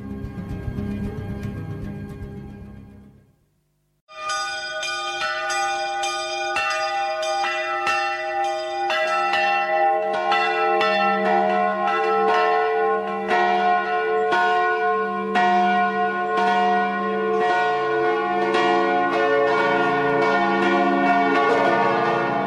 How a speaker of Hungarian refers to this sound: Hogy zúgnak szerte szét a nagy harangok, bongásuk mély titokkal van tele, mély gyorsan szállnak szélszárnyán a hangok, megtelik velük a légtengere. Hangjuk belekiált az éjszakába, minden harang, mint egy-egy ért torok.